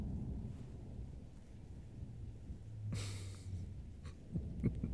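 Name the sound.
distant thunder rumbling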